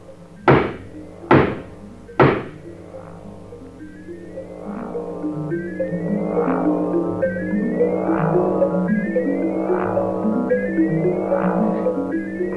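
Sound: knocking on a door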